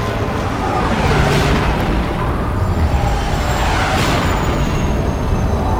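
sonic booms

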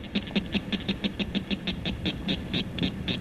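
northern cricket frog call

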